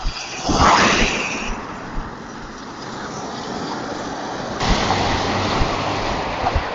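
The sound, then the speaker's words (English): A continuous roar of road traffic as cars rush past a person walking down a hill on a narrow footpath in Malahide, a suburb of Dublin, with a loud whoosh near the start and another swell later, mixed with some wind buffeting the microphone. “You'll hear the noise of all those cars passing me.”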